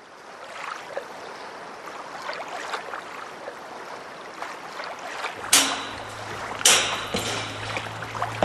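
Water laps and splashes continuously around an Antrim Boat Club boat out on Loch Ness, near Antrim town in Ireland, then a low engine hum starts up partway through with a couple of louder splashy bursts as it moves across the water.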